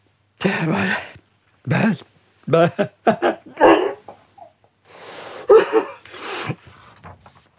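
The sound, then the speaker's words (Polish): A man with a head cold sneezes loudly and repeatedly, a string of forceful bursts broken by short pauses, with no clear talking in between. “A cóż tak strasznie kichasz? Zakatarzyłeś się.”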